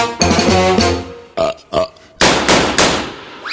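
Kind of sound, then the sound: human body sound, burp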